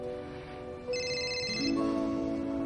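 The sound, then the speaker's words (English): A woman's phone rings with a bright electronic ringtone, a short burst of high chiming tones over a steady low background drone. No one speaks. “picks up her phone.”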